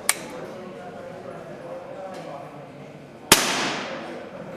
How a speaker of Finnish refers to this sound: Koska se puristus, joo, minkä se vaati, niin on kyllä ihan älyttömän, joo, pieni. Se on ajatus. Sormella pitää voida tuntea se liipasin ennen laukausta ja sitten sen jälkeen hitaasti puristaa, niin se laukee sen.